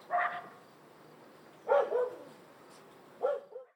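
A big dog named Leevi barks three times, each bark a short gruff burst spaced about a second and a half apart, clear with no talking.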